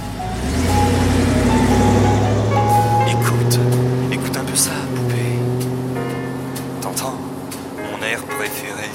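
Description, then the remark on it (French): A car engine hums and rises in pitch as the vehicle accelerates, a steady drone with shifting tones, while brief clicks and rattles punctuate the drive. “Vous montez dans la voiture, vous mettez autour la playlist que vous avez concoctée pendant des semaines, et vous êtes seul au volant, la vitre ouverte,”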